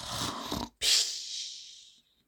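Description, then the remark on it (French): Loud, congested snoring of a chamois through a blocked nose: a rough, rumbling inhale followed after a brief pause by a long, whistling, hissy exhale, with no talking. “Le chamois ronfle très fort car il a le nez bouché.”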